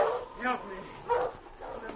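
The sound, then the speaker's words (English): Sled dogs bark and yelp in three loose bursts over two seconds, mid-pitched and fairly loud, with overlapping voices forming a busy, excited chorus and no talking. “He stopped and turned as he heard the dogs.”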